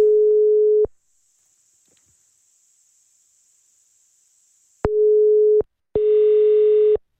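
A steady, mid-pitched telephone ringback tone sounds in short beeps: one, a long silent pause, then two more in quick succession, the last one slightly buzzier. No one speaks.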